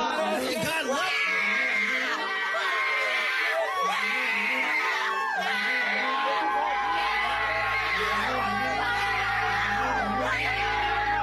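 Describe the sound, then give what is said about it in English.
A crowd at a pro-abortion gathering yells and shrieks continuously as a woman prays in the name of Jesus, with loud overlapping screams and whoops rising and falling, while a low steady hum comes in during the second half. “Here we see a woman praying at a pro-abortion gathering, and you can hear the demons in the crowd freak out at the name of Jesus.”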